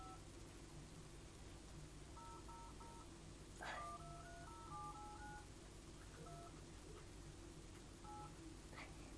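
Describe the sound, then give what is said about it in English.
A little girl presses buttons on a toy phone keypad while pretending to text, giving short electronic tone beeps in irregular bursts, with a brief clack partway through, all fairly quiet over a steady low background hum. “Do you know when you have to press this button and that button and that, you have to press all of the buttons.”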